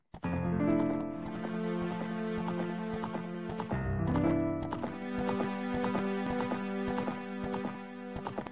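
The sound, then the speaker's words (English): A brown horse with a white mane gallops across a moonlit dark green field in a Nintendo 64 video game, its hooves a quick, steady rhythm of sharp, fairly loud clip-clops, layered over sustained musical tones with no voices. “I watched in awe as a dark green field became illuminated by a large moon, slowly descending down as a brown horse with white mane galloped through Hyrule fields.”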